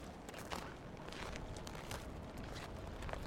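Crunching footsteps on snow in a forest near a home on a sunny day, a steady gritty crackle with sharper bright crunches every second or so as someone walks, continuous and fairly loud with no voices.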